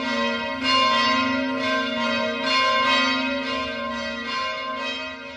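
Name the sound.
church bells ringing together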